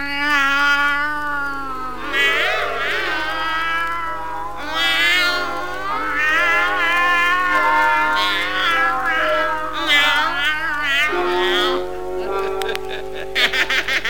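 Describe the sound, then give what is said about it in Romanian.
A cat yowls and meows in long, drawn-out wavering cries, loud, one call flowing into the next with barely a pause and no talking. “Da, nu mi-închipuiam că puteți lua chiar și chipul unei pisici.”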